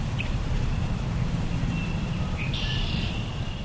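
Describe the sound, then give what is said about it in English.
A steady low rumble of nearby traffic fills the background while a few high, thin bird chirps and a short warbling call rise above it outdoors, beside the Pike River in the village of Mount Pleasant, Racine County, Wisconsin, louder than the flowing water. “Birds and nearby traffic are louder than the water flowing in the Pike River in the Racine County village of Mount Pleasant.”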